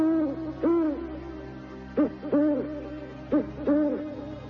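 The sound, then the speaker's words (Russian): An eagle-owl hoots in short, deep paired calls, repeated several times at a steady pace over a low, continuous background hum, sounding clear. “Филин снова закричит.”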